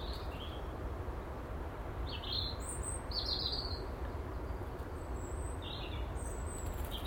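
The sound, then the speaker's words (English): A blackbird sings on an overcast morning in short, high, scattered chirps and whistled phrases over a steady low rumble of background noise, with no one talking. “Good morning, Mrs. Blackbird, how are you?”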